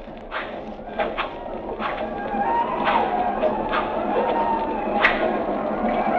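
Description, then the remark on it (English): Horses ridden by attacking Apaches gallop steadily closer across a plain, their hooves landing as irregular thuds over a dense, rumbling wash of noise that swells gradually louder. “Hit one of the horses. Here they come.”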